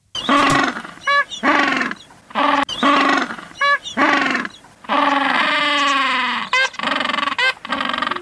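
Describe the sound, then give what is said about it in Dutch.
A penguin colony calling, with loud braying cries overlapping one another in quick succession, some drawn out and some choppy, filling the whole stretch with no pauses and no talking. “Pinguïns? Ja, heel goed.”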